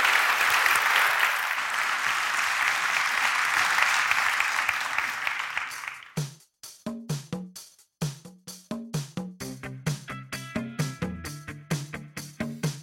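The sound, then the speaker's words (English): An audience claps loudly and steadily for panel speakers for about six seconds, then the applause fades out and gives way to rhythmic music with sharp, regular percussive beats. “All the best and a big round of applause to you.”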